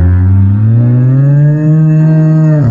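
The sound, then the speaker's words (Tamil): A single long, deep bellowing moo from a bull, loud, holding steady with a slight upward rise before cutting off, with no voices present. “ரொம்ப நாளுக்கு முன்னாடி ஒரு காட்டுல மூணு காளைகள் இருந்துச்சு.”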